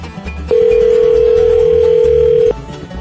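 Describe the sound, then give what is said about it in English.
A telephone dial tone, heard as a phone call is being placed, hums steadily and loudly for about two seconds, then cuts off abruptly, with a faint low background bed running underneath before and after. “We're going to make a phone call right now if I can get to going there.”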